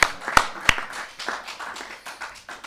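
An audience at an event breaks into applause for the organizers, a few sharp claps up front swelling into a dense, steady patter of many hands that gradually softens toward the end.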